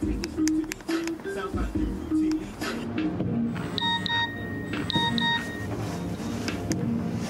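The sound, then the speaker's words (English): A mobile phone rings out with a repeating pattern of high electronic beeps, clear, over a noisy background with people talking and moving around. “Oh, fucking phones.”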